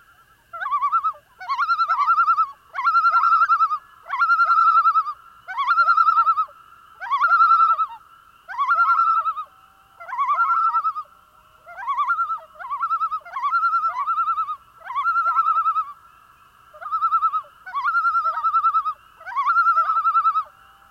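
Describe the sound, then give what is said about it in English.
A mated loon pair trade rapid, quavering tremolo calls back and forth, alternating and overlapping in an excited, laughing duet that pulses in steady bursts across a quiet background, with no voices. “Sometimes, members of a pair alternate and overlap tremolo calls to produce an excited tremolo duet.”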